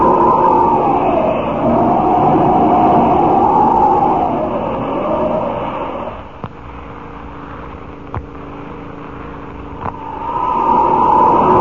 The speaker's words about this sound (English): Couple of cars down on the road. Say, one of them's traveling fast. Too fast for a narrow road like that. Look at him skid around that curve. He's mad or drunk. Great Scott, what's he trying to do? Catch the car ahead of him?